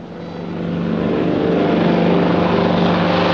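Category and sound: vehicle, airplane engine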